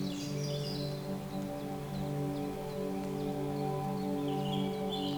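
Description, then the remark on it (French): Birds chirp and twitter intermittently outdoors, their short high calls scattered over a steady low humming drone that runs throughout. No one speaks. “Les oiseaux et moi-même vous saluons.”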